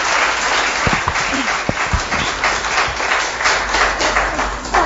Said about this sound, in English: Shall we just give a round of applause?